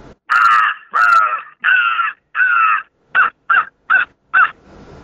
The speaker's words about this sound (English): And when you do that, a lot of times you'll answer it. And probably a crow call is one of my favorite calls to just pack all day, because he'll answer that a lot of times.